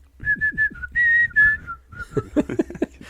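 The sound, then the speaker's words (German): A person whistles a short, clear tune of several distinct notes, some sustained and some quick, before a voice begins speaking. “Kannst du aktiv daran erinnern, ob und wie du Pfeifen gelernt hast, oder hast du dich da recht geplagt und recht bemüht?”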